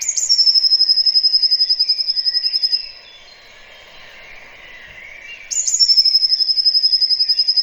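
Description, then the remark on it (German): A songbird sings its spring song with variations, a high, rapid, buzzing trill in two long bursts separated by a quieter pause, loud, with a faint rustling background and no talking. “Für mich ist das so Frühling, weil das ist auch ein Vogel, der im Sommer nicht mehr singt.”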